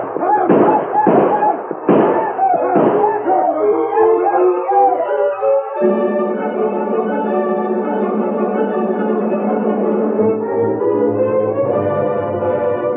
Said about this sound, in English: The black leader broke his stride when he heard the shots and yelling ahead of him.